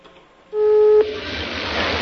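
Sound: telephone call tones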